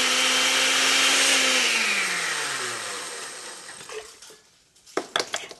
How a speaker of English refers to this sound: The chiles, garlic, cumin, and oregano are blended with a bit of water and an old electric blender.